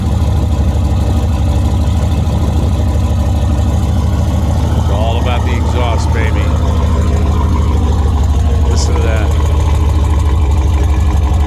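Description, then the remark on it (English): A modified Mercedes S-Class car engine idles loudly, a deep, steady rumbling throb that holds constant throughout, with faint higher sounds flickering briefly in the middle. “But I'd like to play you a tape of it idling.”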